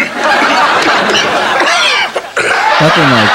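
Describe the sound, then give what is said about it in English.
Loud, harsh coughing and hacking throat noises from a man coughing up a squirrel tail, mixed with squeaky vocal sounds over a dense, noisy background, pausing briefly before a final sputtering burst. “He coughs and a squirrel tail comes out of his mouth.”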